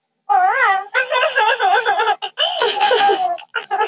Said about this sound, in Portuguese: Ai, desculpa, que agora estamos com voz de bebê. Sim. Fala lá. Olá. Ficas muito gira com voz de bebê.